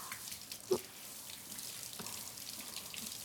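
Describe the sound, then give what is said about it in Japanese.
Steady shower water spraying on hair, starting from the crown of the head to wet it as the first wash, a soft continuous hiss with a couple of sharper splashing drips early on and midway; no one speaks. “シャワーで濡らしておくことは、”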